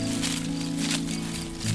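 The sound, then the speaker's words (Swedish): Papery rustling and scratching at a tent opening in quick irregular bursts, layered over a steady low humming drone, with no one speaking. “Det prasslar och krafsar alldeles vid tältöppningen.”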